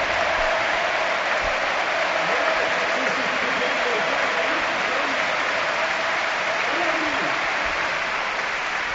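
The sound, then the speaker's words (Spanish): A crowd of nearly 40,000 at Mestalla stadium stands for a sustained ovation for captain Dani Parejo, dense steady applause roaring evenly throughout, with faint cheers and voices mixed into the wash of clapping. “Puestos en pie, ovación de gala, se la merece por juego y por personalidad.”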